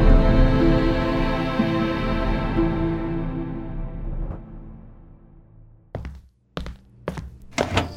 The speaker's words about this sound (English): The chief clenched his right hand into a fist and thumped it hard against his chest.